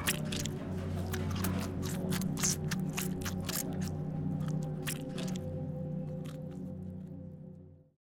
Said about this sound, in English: Satisfied, he picks up one of the sandwiches, unwraps it slowly, almost lovingly, and then falls upon it with an animalistic snarl.